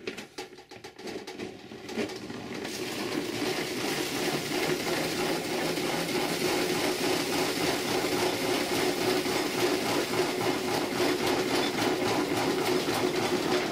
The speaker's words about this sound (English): This is a centrifuge. Homemade centrifuge is what we have.